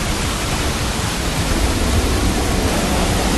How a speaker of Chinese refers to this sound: 刚刚呢我们一路行的时候，其实呢那些溪水声瀑布声呢都已经非常之大。 溪水都很清楚、啊。 溪水但通常溪水都是很缓慢，但这个很快。